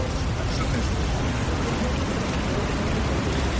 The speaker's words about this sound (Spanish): Silencio roto posteriormente por los aplausos.